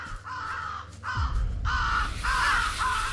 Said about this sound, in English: Ravens have joined forces with the zombies. Bad luck, as they will pick your eyes.